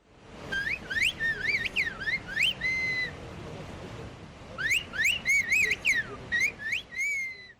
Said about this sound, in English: A whistled language is a highly developed method of communication. People use whistling sounds in place of words. The language was created as a way to communicate across great distances in difficult mountain conditions.